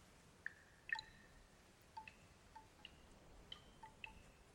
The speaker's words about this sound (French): La chaleur verticale n'est pas parvenue à avaler les quelques gouttes que l'on entend sourdre entre les bouquets de buis. C'est une promesse. On cherche la fraîcheur. On déniche le filet d'eau entre les pierres. Il est si frêle.